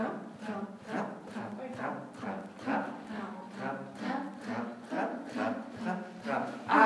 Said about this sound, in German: Und weiter geht es nun in Trab. Gut, dass ich ein Pferdchen hab.